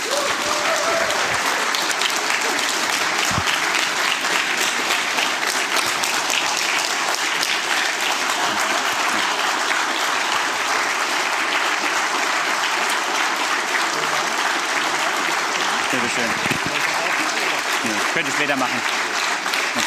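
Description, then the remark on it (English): Loud, sustained standing applause from a large audience for three men being thanked, a dense continuous wash of clapping that holds steady for the full stretch without pause. “And please give everybody like a standing applause for those three amazing guys.”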